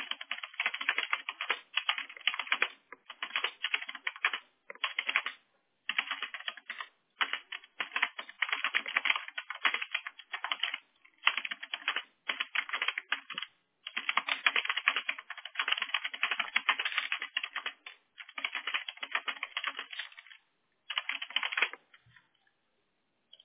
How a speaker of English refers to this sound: I'm sorry if you hear me typing a lot. I'm just trying to make sure that I'm notating everything correctly, okay?